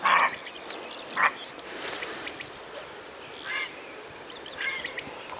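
A grey heron gives hoarse, rasping calls, four or so harsh croaks spaced irregularly over a few seconds, against a faint outdoor background with no one talking.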